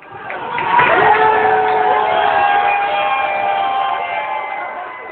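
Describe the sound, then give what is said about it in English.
A packed bar crowd watching the USA-Iran World Cup soccer match at the Phoenix Landing Bar in Cambridge erupts in sustained, loud cheering and shouting, with overlapping voices and whoops holding steady for several seconds before easing slightly. “Sound there from USA-Iran match as watched at the Phoenix Landing Bar in Cambridge.”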